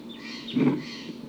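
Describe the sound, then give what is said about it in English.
Wild birds and decoy birds call, with a brief, fuller burst in the middle among thinner, higher cries against a steady outdoor hiss. No one speaks. “Birds closer now, I think. And the decoys are really calling a lot.”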